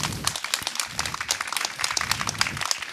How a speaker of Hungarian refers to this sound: Kemény Istvánnal fog beszélgetni, egy nagy tapsot hagy kérek neki.